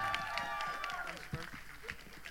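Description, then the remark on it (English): An audience applauds steadily for a pastor from South Auckland, a dense wash of clapping with cheers and high whoops rising over it, loud throughout the short stretch. “Give a round of applause for our brother, our pastor from South Auckland,”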